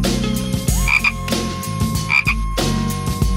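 Loud frog croaks repeat in a steady rhythm, each a deep, buzzing call with a sharp raspy edge, overlapping into a continuous chorus with no voices present.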